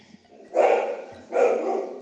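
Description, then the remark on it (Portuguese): A dog barks twice in succession, two loud, drawn-out woofs with a short pause between them, with no talking. “Que hora pra latir?”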